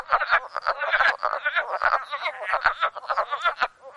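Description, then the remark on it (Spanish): A chorus of wood frogs croaking in rapid, clucking bursts, overlapping calls packed densely and continuously, moderately loud with no voices present. “Y esta es la rana de la madera.”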